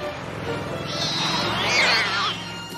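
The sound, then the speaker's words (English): A couple of cats let out a shrill, wavering yowl lasting about a second and a half, loud, as they fall off the roof of the Mystery Machine van while it takes a turn, over a steady low rumble like the van's engine. “Shaggy takes a turn and the cats fall down.”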